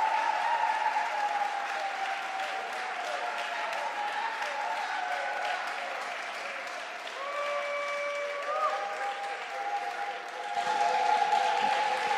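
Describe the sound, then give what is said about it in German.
An audience at a church service applauds steadily for about twelve seconds to welcome a guest, a dense, even wash of clapping that swells slightly louder near the end, with a faint sustained tone sounding beneath it partway through. “Wir dürfen ihr schon einen Applaus geben.”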